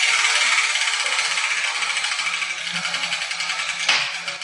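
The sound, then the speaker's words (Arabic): A steady, dense clatter of a ball rattling inside a spinning wheel drum, busy and mid-to-high pitched throughout, with a sharper knock near the end as the ball, marked with a letter, drops out of the wheel. “وها هي كرة اليوم سقطت من الدولاب.”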